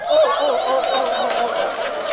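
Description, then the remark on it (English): A crowd of people at a summit in Scarborough imitates seal barks as a show of appreciation, many overlapping honking, nasal cries layered into a loud, steady din that carries on for about two seconds without pause. “The seal of approval.”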